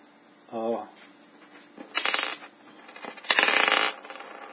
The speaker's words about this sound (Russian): Просто кубик кину.